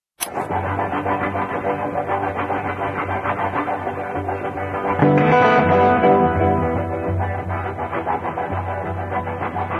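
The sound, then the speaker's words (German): A heavily distorted electric guitar, played live and improvised as program music to a finished film, churns out a steady, droning rumble that mimics a train, swelling louder and brighter about halfway through before settling back into its chugging roar. “hier einen Zug nachmacht”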